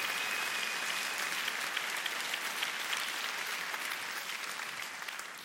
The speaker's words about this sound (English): Come on, we should all be clapping for that.